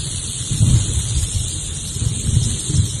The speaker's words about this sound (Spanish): Ese animal tan agradable que hace este ruidito. Y es que en España no hay serpientes de cascabel como la que acabamos de escuchar. Bueno, salvo alguno que lo tenga guardado en algún terrario o en algún zoo.